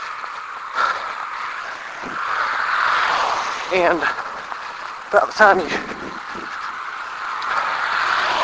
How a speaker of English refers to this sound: Well, all this blasted traffic goes by. I've never seen so many cars. Here we go again. This is the one thing about running on this road in the morning that I despise. I hate it. This is just so much traffic.